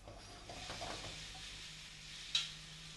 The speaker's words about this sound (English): Now I have my onions and my garlic over on the frying pan. My onions are frying away, so I'll just take this one over to the frying pan. Give that a stir.